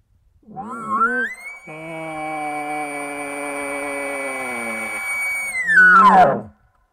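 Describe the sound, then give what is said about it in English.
An imitation elk bugle blown through a call tube: a full-octave bugle climbs to a long, steady high whistle, with lips buzzed in the tube at the high note for a deep buzzing growl, then breaks into a rough, falling grunt at the end. “So you go through your normal full octave bugle. Right as you hit that high note, you buzz your lips in the tube to get that deep sound.”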